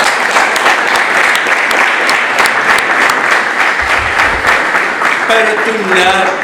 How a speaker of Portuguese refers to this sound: Uma salva de palmas.